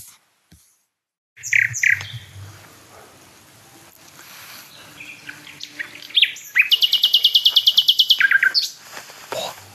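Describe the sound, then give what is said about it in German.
A nightingale sings a varied phrase of whistles and chirps, building into a loud, rapid trill of repeated high notes before breaking off, with a low rumble beneath at the start. “Also wir stehen jetzt bei der Hotspot-Nachtigall.”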